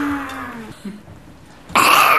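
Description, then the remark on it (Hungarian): A person imitates a rutting deer's bellow: a low, drawn-out voiced groan that slides downward, a short pause, then a loud, harsh, strained burst of breathy roaring. “Szarvasbőgéskor, igen, ilyen, ehhez hasonló, csak kicsit erősebb hangot ad ki.”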